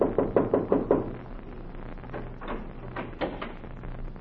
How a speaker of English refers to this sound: And so he went out to heal the heartbeats of the world, to look into hospitals across the country, and to knock on any door to enter the house of the sick.